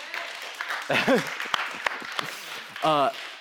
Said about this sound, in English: Karaoke, yeah, huge clap.